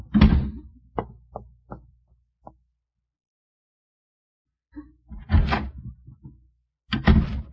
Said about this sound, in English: Well, I couldn't see him from where we were hiding, but I heard the door slam.